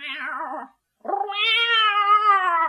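A fluffy striped cat sitting on a windowsill meows twice, loud: a short wavering meow, a brief pause, then a longer drawn-out one that rises and holds. No other sounds.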